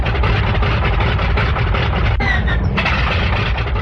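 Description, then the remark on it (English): A loud carrier plane engine is started on an aircraft carrier turning into the wind as pilots prepare for takeoff; it roars steadily with a rough, sputtering texture, briefly catching and surging before settling into a continuous idle. “Pilots, man your plane. While the flat top turned into the wind, the pilots prepared for the takeoff. Start engine.”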